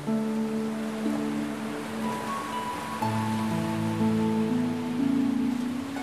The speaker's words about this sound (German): Und das herrliche Gefühl, das die Wellen und ihr wunderschönes Rauschen in dir auslösen.